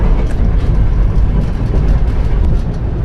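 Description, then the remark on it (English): A loud, steady low rumble of the Sunlander, a QR passenger train, rolling along the rails, continuous throughout with no voices. “I've been driving trains in QR for 36 years.”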